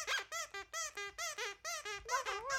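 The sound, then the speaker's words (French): A baby seal cries in the distance on the pack ice: about ten short, high-pitched wavering bleats in a quick, steady series, each bending up and down in pitch, with no talking. “Mais tout à coup, dans le silence complet, on entend au loin un bébé phoque qui pleure.”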